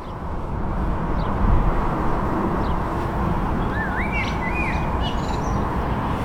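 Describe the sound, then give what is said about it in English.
A blackbird sings a few fluting, rising phrases on an overcast spring day, carried over a steady, heavy rumble of wind or traffic noise that fills the background throughout. “Blackbirds are still pushing for it, though.”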